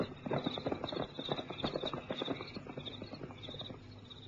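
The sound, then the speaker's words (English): Steady clip-clop of a horse's hooves walking on a track, a regular rhythm of hollow knocks at moderate loudness, with a faint high ringing tone running above it and no voices. “He reined his horse into a walk.”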